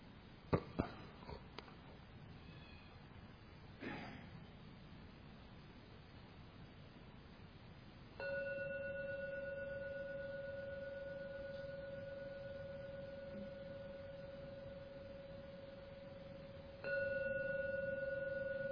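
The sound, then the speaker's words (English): A gong is rung three times: a long, steady, humming tone sustains for several seconds, then it is struck again near the end, preceded by a few soft knocks. No one speaks. “Now ring the gong 3 times.”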